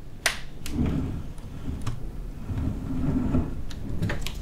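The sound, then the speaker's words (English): Wooden drawers of a furniture piece from Asia slide open and shut several times, with low scraping rumbles between a handful of sharp knocks as they bump to a stop. No one speaks. “As you can see, there are lots of drawers that you can use.”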